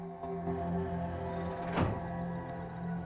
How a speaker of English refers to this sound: He looks up at the sound of the closing door, puts the compass in his pocket, and pulls out his stun gun, heading back into the room.